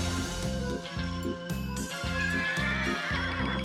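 A horse neighs over a steady, rhythmic low thumping that resembles hoofbeats, loud throughout, with no one talking.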